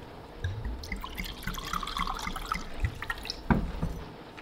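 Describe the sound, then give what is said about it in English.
Water is poured into a glass of whiskey, a steady splashing trickle lasting a few seconds, with a couple of soft knocks near the end and no talking. “Whiskey and water, please.”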